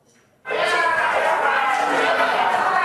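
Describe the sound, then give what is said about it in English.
A large crowd in a conference hall bursts suddenly into loud shouting and booing at two Greenpeace protesters who interrupted a speech, many voices merging into a dense, sustained roar that keeps going without a break. “The crowd shouted and booed at the pair before they were removed from the conference hall.”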